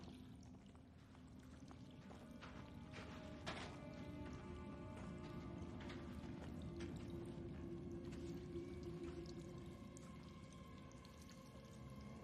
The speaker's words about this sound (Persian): به نظرت این از کجا میاد؟ فقط یک کم آبه.